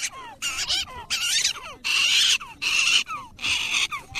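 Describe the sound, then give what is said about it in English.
An angry female prairie dog in the grassy hills of Wind Cave National Park gives a run of six harsh, high, squealing calls in a steady rhythm, each loud burst separated by short gaps and faint chirps. “This angry little prairie dog calls the rolling grassy hills of Wind Cave National Park home.”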